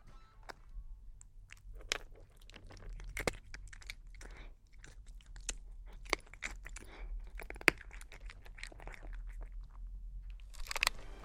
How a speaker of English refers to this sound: And this is my cat eating his biscuits.